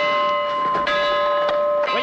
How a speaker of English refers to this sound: stop ringing that bell? Now, who's responsible for this? Who paid for it? I think it's glorious.